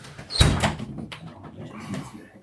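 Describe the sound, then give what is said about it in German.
A door hinge creaks briefly, opening with a sharp burst and a thin squeal before softer scraping and rattling trail off over a couple of seconds, moderately loud. “Hat jemand WD-40 wurde dabei geschafft? Für die Tür oder so?”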